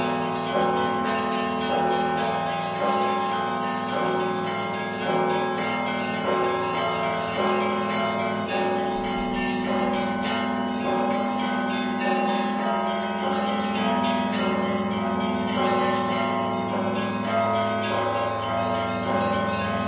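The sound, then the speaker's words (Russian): A festive peal of Orthodox church bells, rung during the Christmas days by a student of the Vitebsk school of Orthodox bell ringers, rings out continuously, many bells overlapping in a dense, resonant clangor that stays loud and steady throughout, with no voices. “а цяпер у гэтыя калядныя дні будзе дарэчы паслухаць звон, які так і называецца – святочны.”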